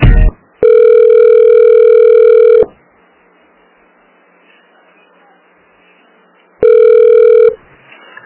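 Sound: telephone line tone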